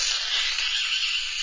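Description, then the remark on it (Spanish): A loud, continuous slurp of scalding hot mint tea with lots of sugar, drunk from a glass: a breathy, airy sucking sound held steadily for about a second and a half with no talking over it. “Me gusta sorberlo con mucho ruido, así, naja.”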